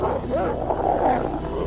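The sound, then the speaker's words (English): A pack of wolf-like creatures snarl and growl together in a loud, continuous frenzy as they attack a man and feast on his body, with overlapping guttural rumbles and sharper yelping snarls. “A pack of wolf-like creatures attack him and feast on his body.”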